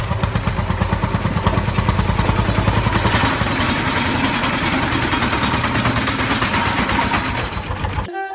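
A tractor engine chugs steadily, its low rhythmic putter loud and continuous for several seconds before cutting off abruptly near the end.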